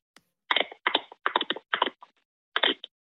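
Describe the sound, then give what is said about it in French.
A person imitates the clicks of Flipper the dolphin with their voice: five rapid, rattling bursts of clicking, fairly loud, with a short pause before the final burst. “Bon, je te fais mon imitation de Flipper de Dauphin déjà pour commencer, parce que j'ai trois points.”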